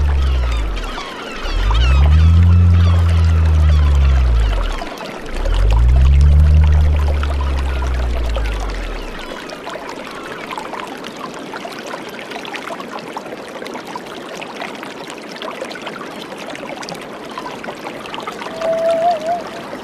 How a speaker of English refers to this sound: I wanted to offset the mid-high frequency emphasis of the river sounds with some real bass sound.